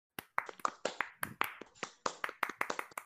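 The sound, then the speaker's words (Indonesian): A rhythmic hand-clapping routine, the scout-style tepuk pramuka: sharp claps in a quick patterned sequence with short pauses between groups, played alone with no talking. “Lagi naik tepuk pramuka.”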